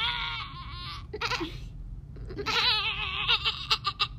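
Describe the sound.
A person imitates a goat, giving two wavering, nasal bleats, the first about a second long and the second longer and more quivering, over a low background rumble.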